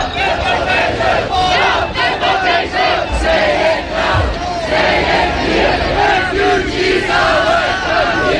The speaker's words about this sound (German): Und dann hat sich ein Riesenzug von mehreren tausend jungen Leuten aufgemacht. Da war eine Mordsenergie zu spüren. Nonstop wurden Parolen gerufen. Kein Mensch ist illegal